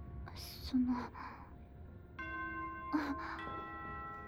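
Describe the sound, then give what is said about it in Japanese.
A school dismissal chime rings out in two sustained, ringing tones that hang and overlap, following a few soft, breathy vocal sounds; a brief quiet voice breaks in over the chime. “下校チャイムの予定ってことは、先輩、もうバスが来る時間じゃないですか？”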